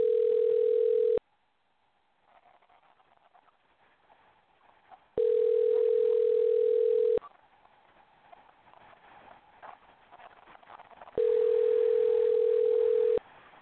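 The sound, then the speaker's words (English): A telephone call dialed out from a New York studio to a 901 area code rings out over the line: three long, steady tonal rings of about two seconds each, separated by gaps of low background hiss and faint clopping patter. “That's why it's not ringing. Here we go. It'll probably work this time.”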